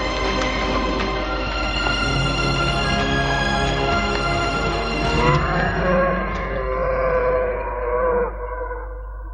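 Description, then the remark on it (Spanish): A long, deep dinosaur roar rumbles with a rich, growling tone, bending upward partway through before trailing off near the end. It is loud and sustained, with no voices. “Se detienen al escuchar el rugido.”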